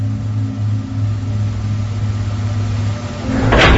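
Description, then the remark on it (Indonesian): A steady low mechanical hum, then a short, sharp burst near the end as the door of room 569, at the end of a corridor, is pulled open. No one speaks. “Segera aku buka pintu kamar yang terletak di ujung lorong ini.”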